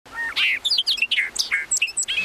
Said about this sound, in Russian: Он сидел на крылечке и наслаждался пением птиц.